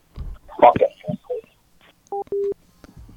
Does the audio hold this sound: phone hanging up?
yes